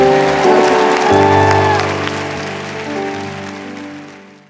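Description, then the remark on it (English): A church audience applauds steadily over sustained, held musical chords, the clapping loud at first and gradually thinning and fading out over several seconds. “Clap for them.”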